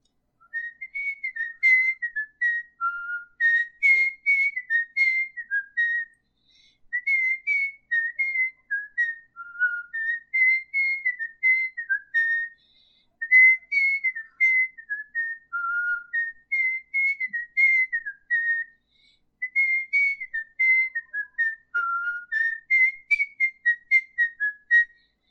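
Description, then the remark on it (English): Someone whistles a lively melody, a steady run of bright, clear notes rising and dipping in short phrases with brief pauses between them, and no talking. “Can you whistle a tune? If so, please whistle a tune.”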